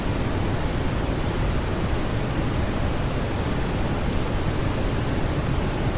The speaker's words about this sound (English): it's an album of 30 tracks of brown noise. Now, just in case you're not 100% sure what brown noise is, it's this.